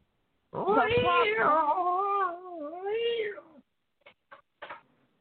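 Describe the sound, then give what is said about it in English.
A loud cat yowl rises and wavers for about three seconds, followed by a few short, sharp bursts like spitting or hissing, as in a cat fight. “Cat fight.”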